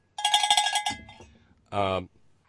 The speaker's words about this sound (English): I got a cowbell for Robert in Australia.